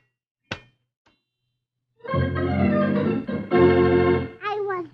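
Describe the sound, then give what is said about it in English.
A single sharp thump strikes glass, then a faint tap, followed by a bright, shimmering, tinkling harmonic sound that swells and ends in quick rising and falling pitch sweeps, as the fairy Tinker Bell from Peter Pan frantically hurls herself against her glass prison, trying to escape. “She frantically hurls herself against her glass prison, trying to escape.”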